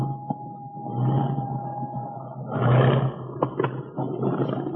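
airplane engines roaring

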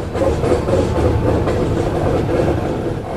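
freight train rumbling past

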